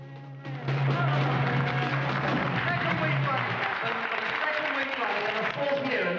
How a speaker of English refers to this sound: A redcoat stands at the microphone, clapping.